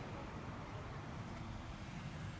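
Steady low road rumble of cars passing on a street with traffic lights, a continuous wash of engine and tire noise with no single car standing out, and no one speaking.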